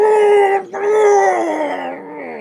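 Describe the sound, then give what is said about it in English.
Axel, a big mole with a warhammer haft between his teeth, lets out a loud, drawn-out roar of pain as he heaves a spear point free, a strained howling cry that breaks off briefly and then carries on, sliding slightly lower. There is no talking. “Axel roared.”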